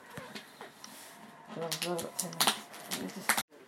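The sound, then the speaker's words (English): A cardboard box is picked at and torn open by hand, with nails and teeth rather than scissors, in a series of sharp rips and crinkly scrapes, growing louder toward the end, with a brief murmured voice in the middle. “Let me see if I can get into it without using scissors.”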